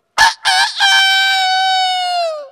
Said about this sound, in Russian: Петушок испугался, закричал.